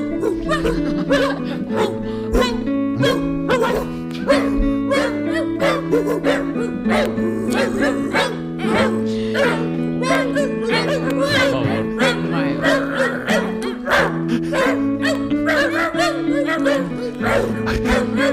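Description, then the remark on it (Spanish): Pitched dog barks are strung together into the melody of the European anthem, each bark landing on a note in quick succession, loud and continuous for the whole stretch with no one talking. “Y es muy interesante pensar que ha habido un momento de grabación de estos ladridos.”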